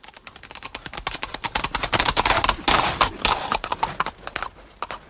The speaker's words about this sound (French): Eh bien, il s'était assoupi au bord du grand chemin, la bride de son cheval passée dans son bras. Et l'animal paissait l'herbe autour du dormeur, autant que la longueur de la bride le lui permettait.